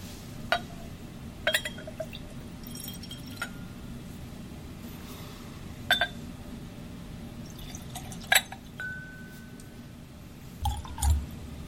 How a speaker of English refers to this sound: So I actually am looking forward to a little bit of water. Let's pour a little more in and put a drop of water in.